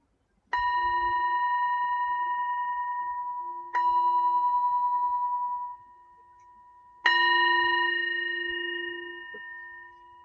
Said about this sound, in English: Deep gratitude for you and your presence here today, tonight, as I end this short practice with a bell.